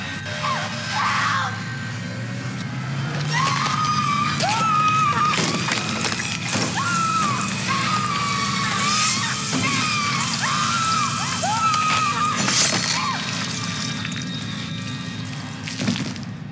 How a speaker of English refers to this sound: And then there's like blood spewing out of all the other holes in the sphere thing.